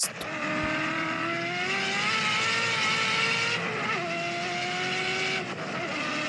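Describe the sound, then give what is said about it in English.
A powerful turbocharged car engine roars steadily, recorded by a camera mounted on the back of the car facing down at the exhaust, with rising and shifting harmonic tones as it revs under load, plus a whooshing turbo hiss layered over the exhaust drone. “but that would be a lot there, of turbo noise.”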